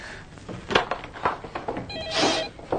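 A telephone rings once with a short, bright electronic trill near the end, preceded by scattered knocks and thumps from objects being handled.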